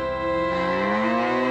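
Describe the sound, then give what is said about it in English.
A single long, loud cow moo, a steady low bellow that rises slightly in pitch, with no one talking over it. “Cows, too.”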